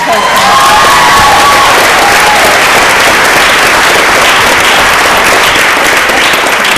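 A big round of applause fills the whole clip: dense, loud, steady clapping from a crowd, with a few cheers and shouts rising over it near the start.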